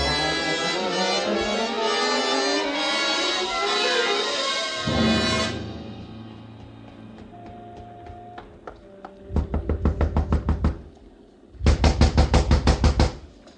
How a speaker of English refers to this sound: A gentle knock does it